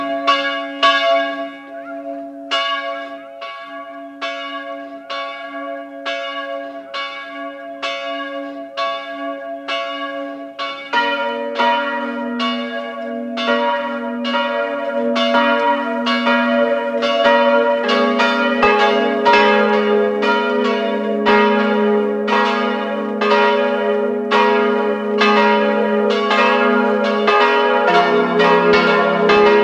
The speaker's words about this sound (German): Es ist 12 Uhr. Es läuten die Glocken der Pfarrkirche Goldegg, Land Salzburg.